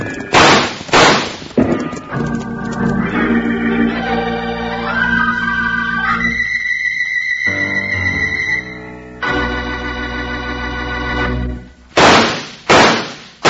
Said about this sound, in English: Wranglers, those three gunshots are just to remind you that Kellogg's new cutout masks are in 3D.